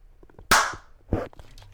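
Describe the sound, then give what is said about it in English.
A sharp, loud hand clap cracks out and fades quickly, followed just over half a second later by a second crisp smack. No one speaks. “Give me a clap.”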